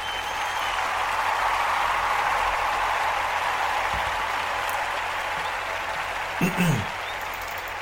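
Steady applause from a crowd, a dense wash of many hands clapping at an even level for several seconds, with a brief louder bump near the end.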